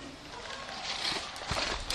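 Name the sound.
horse hooves clip-clopping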